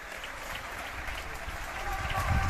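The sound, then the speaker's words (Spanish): Sustained applause from many hands, dedicated to an internal medicine doctor at Hospital de Fuenlabrada and his team, a dense, steady patter of clapping that swells slightly louder toward the end, with no distinct voices rising above it. “Así que va por usted, nos adelantamos unas horas, pero queremos que estos aplausos vayan para Jesús, médico de medicina interna del Hospital de Fuenlabrada.”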